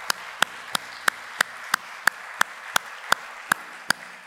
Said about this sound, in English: Let's give that concept a round of applause.